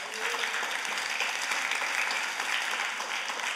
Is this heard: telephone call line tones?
no